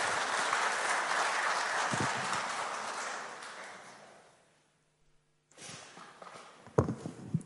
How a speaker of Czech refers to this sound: Ještě mu můžeme zatleskat jednou.